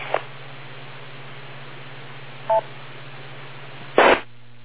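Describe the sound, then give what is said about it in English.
A brief two-tone telephone beep sounds midway over steady line hiss and a low hum, framed by a click at the start and a louder burst of static near the end. No one speaks. “I'll wait for the beep.”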